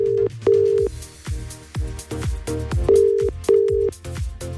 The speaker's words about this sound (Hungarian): Krisztánál csörgök egyébként.